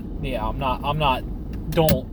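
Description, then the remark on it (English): A steady, low engine and road rumble fills the inside of a moving car, continuous throughout, while someone talks over it in bursts. “I'm in my car on a road and people can't hear me.”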